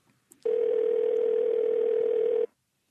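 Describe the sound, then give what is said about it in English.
A single ring of an outgoing phone call to the caller's wife, a mother of three: one steady, two-second electronic ringback tone heard clearly and alone, with no voices, followed by a brief silence. “There's no way she can answer this phone.”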